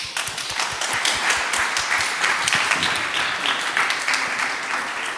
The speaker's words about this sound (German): Applaus für die.